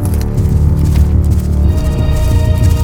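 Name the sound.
galloping horse hooves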